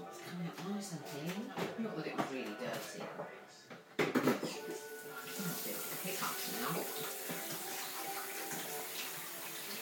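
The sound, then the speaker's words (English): A pet dish is set down with a single sharp clunk midway, while water runs from a tap and a voice talks in the first half. “Now, give you a bowl, and I'll put your dish.”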